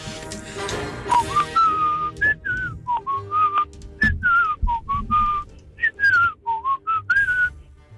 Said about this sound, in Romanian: Hai să mai fluierăm, vom fluiera și vom fi liberi.